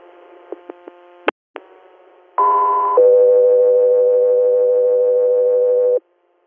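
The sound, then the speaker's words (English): Radio dispatch alert tones before a hospital transport call: after a few clicks and a squelch burst, a short electronic tone jumps to a long, steady lower tone lasting about three seconds, loud and clear with no talking. “Custer Air, standby for tones.”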